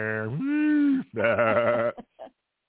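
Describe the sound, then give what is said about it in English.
A person imitates a cow mooing: two drawn-out, loud vocal lows, the second wavering slightly, followed by a couple of brief trailing voice sounds. “Yeah, I was kind of napping and dozing off, and I thought I heard a cow at the door, and I went and nothing. That was just me.”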